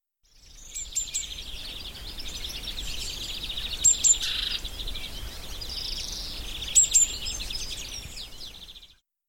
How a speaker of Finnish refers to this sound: Tomakselle on jäänyt mieleen, kun siellä esiteltiin linnun ääniä.